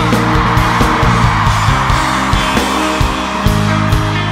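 A loud crowd at a band's show cheers and screams continuously for the guitarist while sustained electric guitar notes ring and shift beneath the roar.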